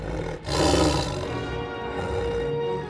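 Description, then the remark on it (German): A tiger lets out a loud, sustained roar that swells sharply after a brief pause, rumbling deep and full for a few seconds, powerful with no talking. “Aus dem Boden, der sich prasselnd öffnet, steigt empor ein flammend roter Tiger.”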